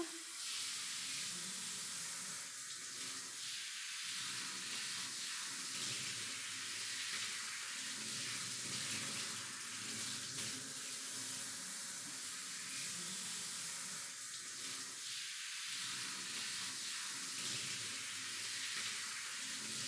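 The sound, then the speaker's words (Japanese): Water from a shower runs steadily for the whole stretch, a constant hiss and splatter with slight shifts in the spray and no voices, as someone is being rinsed off with their eyes closed. “次はシャワーだね。”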